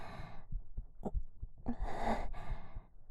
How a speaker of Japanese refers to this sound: 心臓の音聞こえる。